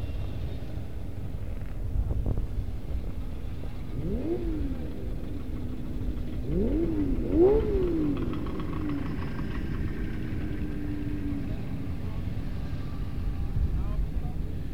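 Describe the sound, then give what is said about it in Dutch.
About 50 motorcycle engines idle together in a steady low rumble, with a few riders briefly revving so the pitch rises and falls, while faint voices murmur in the background; the riders come from all around Wageningen. “Ja, nou, dat kan wel kloppen, ongeveer 50 motoren.”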